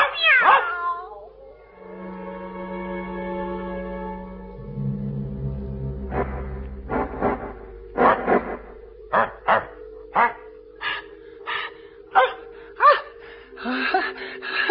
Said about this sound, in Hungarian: A kutya és a macska eddig összegömbölyödve hevert a szekrény lábánál. Most egyszerre nagyot kiáltanak.